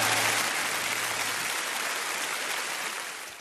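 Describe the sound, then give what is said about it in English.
A crowd applauds steadily, a dense wash of clapping hands that holds strong throughout before easing slightly at the very end. No voices cut through. “Go ahead, give them a applause.”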